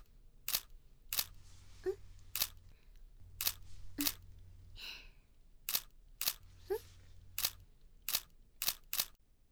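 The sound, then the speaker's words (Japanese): A camera shutter clicks about a dozen times in irregular bursts with some quick pairs during a photo shoot in a love hotel, over a low steady hum and a few faint vocal sounds. “撮影もういいんですか？結構いっぱい撮りましたもんね。”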